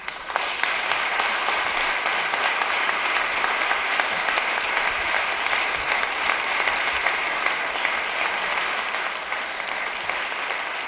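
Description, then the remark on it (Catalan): Sustained applause from the representatives and public in the council chamber of Tarragona City Hall after athlete Natàlia Rodríguez's proclamation speech for the Santa Tecla festival, a steady dense clatter of many hands clapping at even loudness for the whole stretch, with no voices rising above it. “Deu minuts ha durat el pregó de Natàlia Rodríguez, que ara acompanyen amb aplaudiments tots els representants al públic de la sala de plens de l'Ajuntament de Tarragona.”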